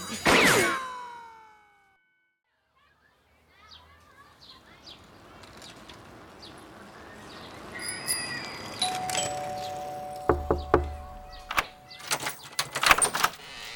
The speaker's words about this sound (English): Oh, wait a minute. What was that? I think I hear the school bell ringing. Gotta go now.